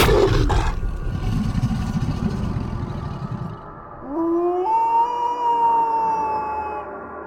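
A wolf howls: after a few seconds of low, growling rumble, a single long howl rises in pitch and holds steady, loud, then slowly trails off. No voices.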